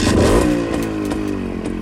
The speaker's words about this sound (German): Motorrad MZ ITS 250 Trophysport aus Schopau.